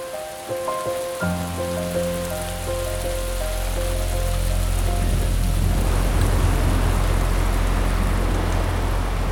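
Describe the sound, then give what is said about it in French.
Steady rain patters and hisses, building into a dense, heavier downpour toward the end, with a low droning tone running underneath at the start. No one speaks. “mais après 20 minutes de ce type de pluie, les cascades vont commencer à couler”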